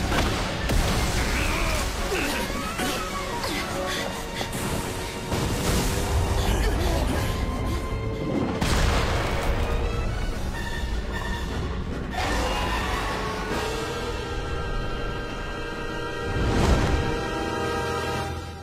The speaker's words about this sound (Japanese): 雷？一雨来るかな？